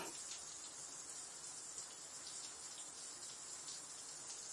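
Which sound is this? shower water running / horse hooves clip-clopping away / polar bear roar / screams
shower water running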